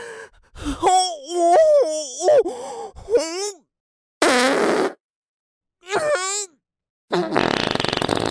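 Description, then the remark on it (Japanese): A woman's drawn-out moaning sighs give way to several loud fart blasts, each a short raspy burst with brief silent pauses between them. “おならもっと出すわよ。臭いのもっと出すわよ。”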